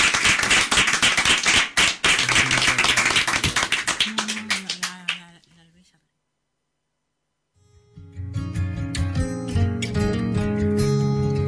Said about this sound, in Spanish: Y un recuerdo y un aplauso a las madres y mayores que fueron tan bien.